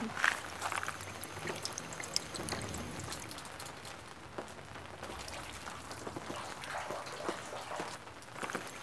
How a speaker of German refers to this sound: An diesem einen Wasserbrunnen, das hört man schon. Aber es ist auch Wasserplätschern, Ton in Ton.